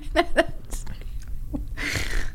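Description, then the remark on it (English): A single sneeze: a few short breathy catches build up, then a harsh, hissing burst of air at the end. Nobody speaks. “Bless you”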